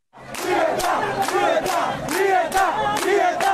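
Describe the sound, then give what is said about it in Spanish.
A large protest crowd in Cuba chants loudly in unison, many voices rising and falling together, punctuated by sharp rhythmic claps or beats about twice a second throughout, during island-wide demonstrations in more than 60 localities. “Las manifestaciones se generalizaron a lo largo y ancho de la isla.”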